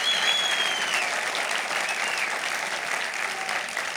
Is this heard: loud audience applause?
yes